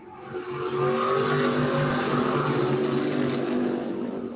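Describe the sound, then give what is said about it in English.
Loud roar of racing engines at full throttle, sustained, with several cars blending into one continuous revving drone as they pass along the track. “As soon as these guys get by here.”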